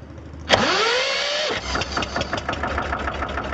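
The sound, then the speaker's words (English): The engine of a small wooden fishing boat moored at the Golden Horn waterfront in Istanbul is cranked by a fisherman at 5 a.m. before dawn: a sudden burst and rising whine, then it catches into a steady, chugging idle with rhythmic knocking pulses, fairly loud, with no voices. “With a crank of the engine, he breaks the pre-dawn silence.”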